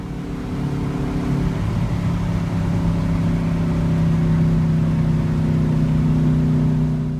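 A little car sound effect: an engine hums steadily and revs up, its droning pitch rising slightly over about seven seconds, loud with no voices.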